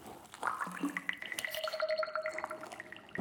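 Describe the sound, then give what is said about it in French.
Water bubbling and dripping, with bright gurgling pops and droplet plinks sliding in pitch, a steady liquid patter running the whole time with no voices. “Oh, ça fait plein de bulles.”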